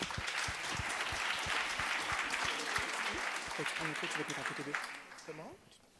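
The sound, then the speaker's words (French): An audience applauds steadily in a dense wash of clapping that holds for about five seconds, then tapers off as a voice begins speaking. “Je pense qu'on peut déjà vous applaudir, merci beaucoup.”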